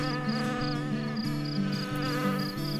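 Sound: fly buzzing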